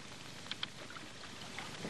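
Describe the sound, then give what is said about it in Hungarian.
Oars rowing a boat through water: a steady, quiet wash of lapping water with a couple of soft splashes or wooden knocks early on. No one speaks. “Sajnos nem sokára partot érünk. Péter, szeretném megkérni valamire. Tessék. Evezzen tovább.”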